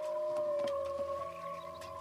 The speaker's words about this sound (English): Can you imagine? All the waterways, that amazing Kunanyu Mountain, and the sounds, they say, the sounds of the whales. You're hearing the whales all the time in the Derwent, making whale song. Imagine that.